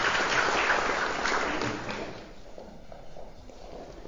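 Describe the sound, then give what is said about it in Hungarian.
A burst of audience applause after a choir performance, dense and fairly loud for about two seconds, then thinning to scattered, hesitant claps that fade out. “Úgy éreztem, hogy a jelenlévők kisé zavarban voltak, hogy szabad-e tapsolni, vagy nem szabad tapsolni.”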